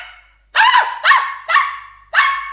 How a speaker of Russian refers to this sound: Малыш держал Бимбо на руках, а тот лизал ему щеки, громко тявкал, обнюхивал уши.